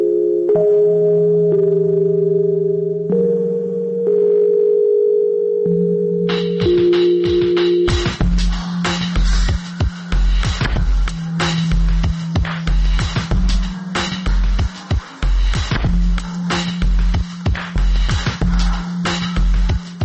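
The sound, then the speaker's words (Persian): Mellow, slightly nasal Rhodes electric piano chords sustain alone for a few seconds, then a heavy, steady drum beat with booming kicks and crisp hi-hats joins underneath and carries the track. “لطافت صدای تو دماغی این پیانوی رودز رو ببینید.”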